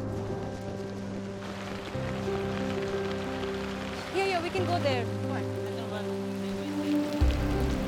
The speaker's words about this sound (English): Another pressing, potentially disastrous enemy has come to the Rohingya. Here comes the rain.